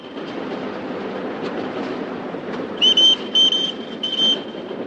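Three train carriages approach a station, rumbling steadily along the rails in a low continuous roll, then three short, shrill high-pitched squeals or whistle blasts ring out over the noise in quick succession.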